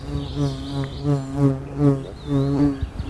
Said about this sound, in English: I couldn't tell you what type of bee it was that had mistaken my metal microphone for some kind of steampunk sunflower, but I'm pretty sure it was looking for a snack.